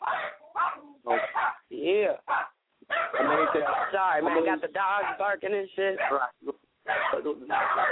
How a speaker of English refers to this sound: Sorry, man, got the dogs barking and shit.